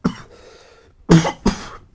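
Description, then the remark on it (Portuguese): A person coughs, played back at double speed: one short cough, a pause, then two loud, harsh coughs in quick succession, fast and clipped, with no talking. “Como é que fica a tosse a 2 vezes de velocidade?”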